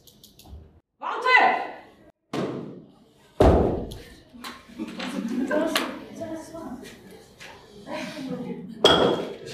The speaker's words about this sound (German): Die Tür ist verschlossen. Und sie ist aus Glas. Ich werde sie aufschießen.